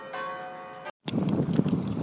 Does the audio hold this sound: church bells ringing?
yes